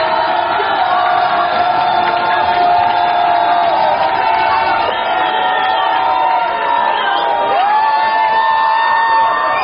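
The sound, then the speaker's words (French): A packed bar of PSG supporters cheering and shouting nonstop during a match against Inter Milan, the cries intensifying at each PSG goal: a loud, dense roar of many voices with whoops and yells rising above it throughout. “À chaque but du PSG, les cris s'intensifient.”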